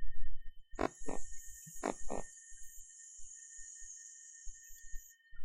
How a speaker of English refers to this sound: As you use the last part of the air, you will notice that the waistline comes in to utilize the needed additional air. Let's hiss again on an S.